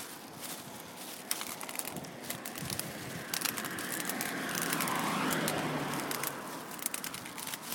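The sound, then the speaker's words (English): A car approaches along a road while someone waits to cross, its steady rumble and tyre hiss swelling gradually to a peak before easing slightly, with scattered crackles and faint bird calls in the background. “I mean, certainly with Eden, I could never have done what I just did then, because although I could hear a car coming, I could still judge it quickly enough to judge it far enough away from it to get across the road.”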